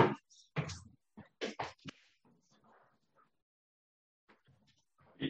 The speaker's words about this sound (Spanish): Pero bueno, porque les tengo la puerta cerrada ahora, los tengo aquí conmigo. Así que nada, bueno, espero que no hagan mucho ruido. O si no, voy a abrirle la puerta, que no tardo nada y bueno.